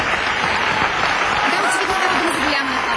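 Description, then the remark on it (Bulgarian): Steady applause from an audience at an academic event, just before a lecture begins, fills the whole stretch, dense and fairly loud, with faint voices murmuring underneath; the clapping keeps an even level without clearly tapering off. “Ръкопляскането ли стихват?”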